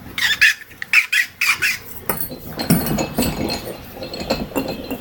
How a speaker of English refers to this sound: Act 1. Scene 1. In the rose gardens of Midas, enter royal gardeners Georgie and Dan, pushing a squeaky wheelbarrow.